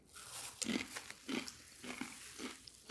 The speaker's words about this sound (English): It's just, it sounds like a chip. Just like a normal chip.